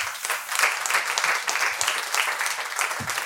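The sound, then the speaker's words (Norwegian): An audience applauds as mayoral candidate Marit Vanke and county mayor Tore O. Sandvik are welcomed onto a stage, a dense, continuous patter of many hands clapping at an even loudness throughout, with no voices standing out. “Gi dem en god applaus.”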